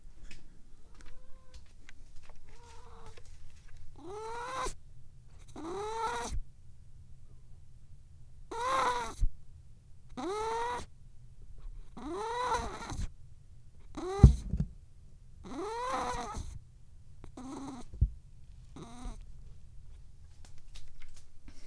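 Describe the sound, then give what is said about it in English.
A pet cat named Pippa meows over and over while pooping in her litter box, about ten drawn-out, wailing calls spaced a second or two apart, clear, with a faint low rustling underneath and no one talking. “And that's my cat.”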